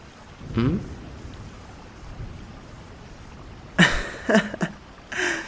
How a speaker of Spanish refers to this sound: Bueno, quitando el hecho de que estás completamente empapada y que estás tomando una soda en plena tormenta, dudo que estés bien.